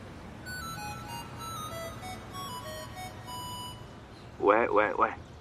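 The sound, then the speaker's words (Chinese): A Nokia 8210 mobile phone in a pocket rings with a melodic electronic ringtone, a string of clear steady tones playing at moderate volume, ending in a short, louder warbling burst. “因为手机响起的时候，我的心也会随之颤抖，随之狂喜。”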